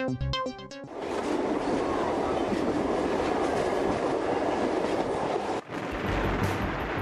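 The Ćira narrow-gauge (760 mm) steam train of the Šargan Eight tourist-museum railway rolls along the rails, a brief tonal whistle up front giving way to a loud, steady rumble and clatter, with a short dip near the end.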